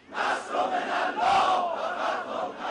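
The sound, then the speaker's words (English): A large crowd of protesters shouts anti-U.S. slogans together, protesting the burning of the Quran, a dense roar of many voices rising and falling in rhythmic waves with loud chanted bursts throughout. “The protesters shouted anti-U.S. slogans and urged Muslims around the world to stand together against the insulting move.”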